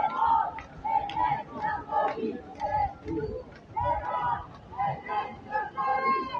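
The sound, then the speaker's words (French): A large crowd marching in a protest against arms trafficking to Israel, during a blockade of ships, chants the slogan 'tout le monde déteste la police' in unison, voices rising and falling in repeated rhythmic phrases with a steady beat, loud and continuous with some shouting mixed in. “Alors là, vous avez bien entendu, c'est le slogan qu'on connaît bien, tout le monde déteste la police”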